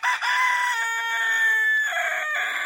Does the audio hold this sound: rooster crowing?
yes